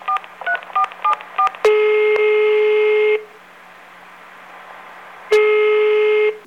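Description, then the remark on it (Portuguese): A phone number is punched in to call a friend, a quick run of about seven short keypad tones, followed by two long, buzzy ringing tones separated by a pause of quiet line hiss. “É só um minutinho que eu vou ligar pra um chapa meu que adora comer essas paradas.”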